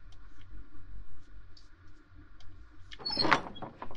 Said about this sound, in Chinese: 管家开门。